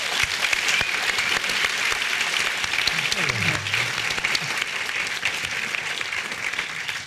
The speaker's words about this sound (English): Would you welcome, please, and applaud them all